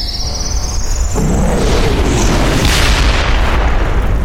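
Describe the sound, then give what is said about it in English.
A high, thin whine sounds for a moment before a deep explosion erupts into a loud, sustained rumbling roar that keeps churning without fading for several seconds, as a mushroom-shaped cloud rises and spreads outward. “Crashed and smoked around me, and burned into my inner eye was the image of a cloud going up and up and up, spreading outward in all directions like a giant toadstool.”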